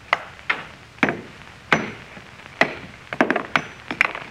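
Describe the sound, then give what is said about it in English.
A hammer strikes a stone, a meteor, along a fissure in a series of sharp, hard blows, about ten in irregular rhythm, some in quick pairs, each a bright crack with a short ring, until it splits clean in half. “All I'm going to do is try and break it along this fissure. See, I got a hammer.”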